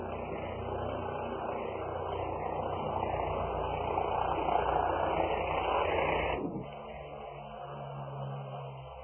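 A helicopter drones overhead in a steady, dense rumble with a low throbbing hum, swelling slightly before dropping away abruptly near the end to a quieter residual drone.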